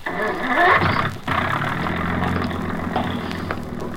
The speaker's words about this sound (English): start that engine.